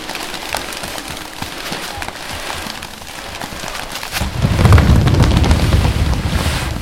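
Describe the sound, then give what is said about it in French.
Steady hiss and crackle of sea surf as a storm approaches, then partway through a heavy wave crashes violently with a deep, rumbling roar that stays loud to the end. Noisy, no voices. “Une lame brutale sinise.”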